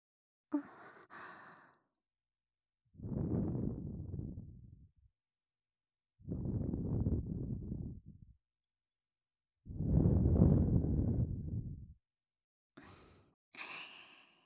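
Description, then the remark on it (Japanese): Three long, soft exhalations of breath blown slowly and evenly into the ear, each airy and hushed, with brief crisp rustling sounds at the start and end. No talking. “耳に吐息もかけていきますね。”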